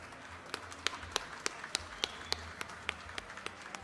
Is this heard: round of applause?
yes